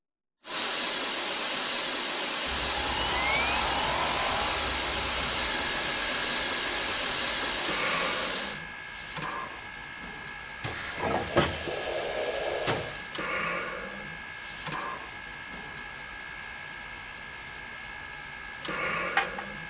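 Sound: steam locomotive hissing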